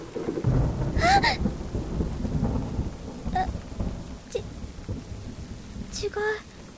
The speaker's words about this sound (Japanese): いくら私が怖がりだからって、雷くらいでビクビク震えたりするわけ。